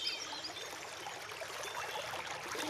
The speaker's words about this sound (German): Und den Rest unserer Folge verbringen wir an einem kleinen Bach und lauschen, wie er rauscht und plätschert. Jetzt lassen wir euch lauschen